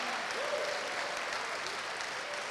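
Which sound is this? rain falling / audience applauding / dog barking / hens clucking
audience applauding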